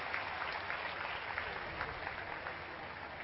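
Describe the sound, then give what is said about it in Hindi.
Loud, sustained applause from a crowd welcoming Dadi ji, a dense wash of many hands clapping steadily with no pauses and no voices standing out. “तो फिर से एक बार दादी जी का जोरदार तालियों से स्वागत करते हैं।”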